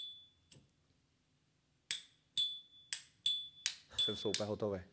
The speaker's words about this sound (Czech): Když to otevřeš, tak z toho jede ten bután. To je přímo speciální oheň. Tam není plyn, ale bután, takže nesmrdí, takže to je přímo na doutníky. Když to otevřeš, tak automaticky se vypouští plyn, takže koukej, co to dělá za zvuk.